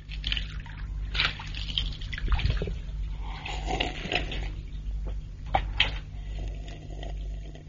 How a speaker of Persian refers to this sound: ربکا مشغول کشیدن آب از چا بود